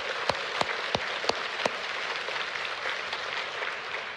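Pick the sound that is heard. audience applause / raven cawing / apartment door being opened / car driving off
audience applause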